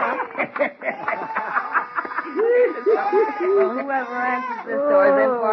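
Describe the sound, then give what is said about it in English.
A goat named Rudolph bleats repeatedly, its wavering, nasal cries fairly loud, following a brief stretch of voices and commotion at the start. “You're the sweetest little goat in the whole wide world.”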